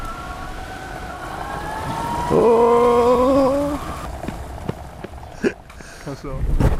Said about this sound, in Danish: Hvis man nogensinde har drømt om at være så lille, at man kunne sidde i en fjernstyret bil, så er løsningen altså måske en motoriseret indkøbsvogn.